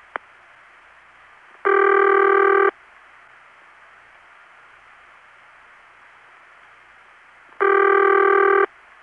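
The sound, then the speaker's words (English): A telephone ringback tone from an Independent (non-Bell) telephone system on a local call, pitch very close to the Bell System's City Ring but different: two long, steady buzzy rings about a second long, separated by several seconds of faint line hiss, with a brief click at the start. “Well, the pitch of that tone is very close to the Bell System's City Ring, but it's clearly different.”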